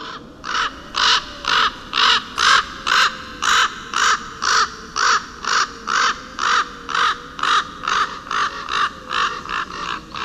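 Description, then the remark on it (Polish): A hooded crow caws over and over in a steady, rhythmic run of about twenty harsh, loud calls, evenly spaced, with no voices. “No i właśnie, i dochodzimy do czwartego gatunku, który kracze, ale nie jest czarny, to jest właśnie wrona.”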